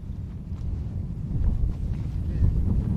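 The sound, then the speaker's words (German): Steady, rough wind from the sea rushes and buffets across the microphone over a sandy landscape on the outskirts of the Tunisian port town of Tassis, a dense low roar that swells slightly midway and keeps going throughout, with faint scattered knocks beneath it. “Der Wind pfeift vom Meer her über die sandige Landschaft am Stadtrand von Tassis.”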